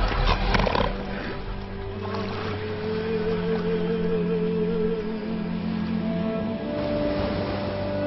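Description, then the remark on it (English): Elephant seals on Macquarie Island in the Pacific, arrived in August after months at sea to breed, call with deep, drawn-out bellows and guttural snorts that overlap into a loud, droning chorus, steady for several seconds with a rougher burst at the start. “In August, after months at sea, elephant seals arrive.”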